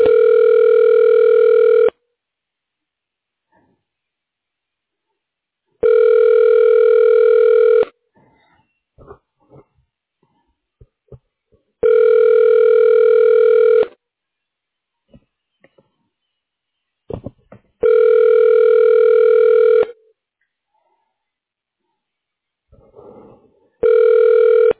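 A telephone ringback tone while a call is being forwarded to a staff member's phone: steady two-second electronic buzzes repeating every six seconds, five in a row, loud, with faint clicks and rustles in the gaps between them.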